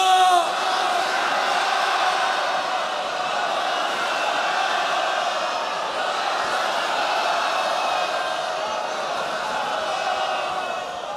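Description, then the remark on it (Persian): A large crowd shouts the religious chant "Ya Zahra" together in a sustained, loud roar of many voices that holds steady for several seconds, dense and reverberant. “برای باز شدن همه گره ها، پیروزی و نصرت و فتح مقاومت، فریاد بزن یا زهرا.”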